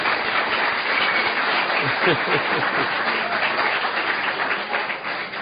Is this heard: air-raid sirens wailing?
no